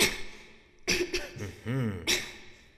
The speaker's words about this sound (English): How long has he been coughing? It started early this morning, but it's been getting worse.